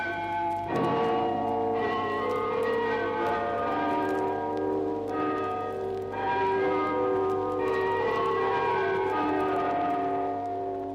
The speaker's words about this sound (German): Vom Glockenturm tönt zum Jahrestag der Oktoberrevolution die Internationale.